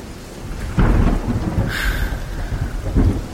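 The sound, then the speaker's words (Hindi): A deep, thunder-like roaring rumble at night in autumn under a clear sky, made by a huge demon flying toward Ayodhya carrying a giant boulder, rolls on for several seconds, loud, swelling in heavy bursts with a hissing, rain-like wash over it and no one speaking. “आश्चर्य है, रात्रि में ये बादलों की गड़गड़ाहट लगता है जैसे भयंकर वर्षा होने वाली है, परंतु ये तो शरद ऋतु है, वर्षा ऋतु भी नहीं है, तो फिर ये कैसी गर्जना है?”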